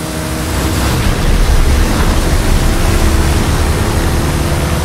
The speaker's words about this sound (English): Did you hear that? Well, that is the last inbound cargo flight racing neck and neck with an AMG 1.